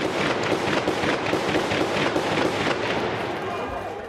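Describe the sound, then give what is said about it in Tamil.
A rapid, irregular volley of gunshots crackles over a dense, noisy background as military armoured vehicles arrive at protesters' camps in Rabaa al-Adawiya, the bursts coming close together for several seconds before easing slightly toward the end. “அதே நேரம் இராணுவ கவச வாகனங்கள் அங்கே வர துப்பாக்கி வேட்டுகள் வெடிக்க ஆரம்பித்தன.”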